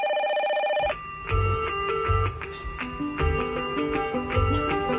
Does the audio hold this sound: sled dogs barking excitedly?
no